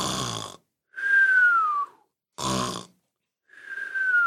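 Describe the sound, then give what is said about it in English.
A man asleep on the job snores in two cycles, each a harsh, rattling inhale followed by a high, thin whistling exhale that slides downward in pitch, with short silences between. “We've caught you again, sleeping on the job.”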